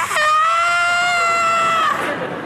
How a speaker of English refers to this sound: Well, an hour later, this lady comes home, and she hears from her bedroom upstairs, this lady just came home. She hears just a blood-curdling scream from next door.